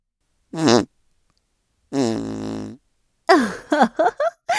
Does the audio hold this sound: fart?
yes